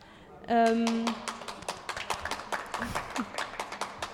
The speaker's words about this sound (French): Toujours agréable d'être rythmé par des applaudissements.